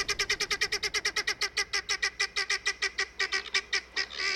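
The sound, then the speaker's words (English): A flock of guinea fowl give loud, rapid alarm calls warning the flock that a predator approaches, a harsh cackling string of about two dozen close-spaced squawks that runs steadily and unbroken, with no talking. “These are calls of alarm, warning all members of the flock that a predator approaches.”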